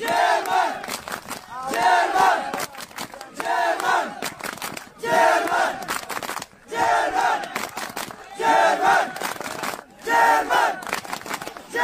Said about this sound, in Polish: Żołnierze żandarmerii wojskowej stanęli w tym miejscu z tarczami, blokując przejście. Tłum migrantów krzyczał: Germany!